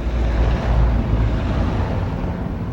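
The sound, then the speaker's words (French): A steady, dense roar of motorway traffic at the entrance to the Autoroute du Sud, Porte d'Orléans: a continuous low rumble of many vehicles blending together with a windy hiss, fairly loud and unbroken throughout, with no voices. “Ou bien encore sur un lieu d'inspiration, au milieu de la circulation automobile, par exemple à l'entrée de l'autoroute du Sud, Porte d'Orléans,”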